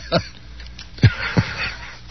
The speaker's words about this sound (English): I'm sorry, I had to blow my nose.